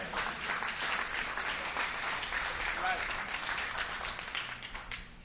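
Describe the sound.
An audience claps steadily during a sermon, a dense, even wash of many hands that holds for several seconds before thinning out toward the end, with faint voices mixed in underneath.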